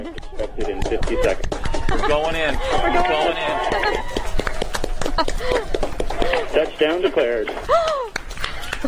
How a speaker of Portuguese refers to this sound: Eu propunha que recuperássemos o momento em que a NASA percebe que a missão teve sucesso. Muitos aplausos. Ouvimos aqui na transmissão da NASA.